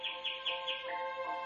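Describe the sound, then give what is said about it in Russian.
A nightingale sings a rapid series of bright, repeated chirping notes in an even rhythm, fairly soft and steady, with no voices present. “Вот это соловей.”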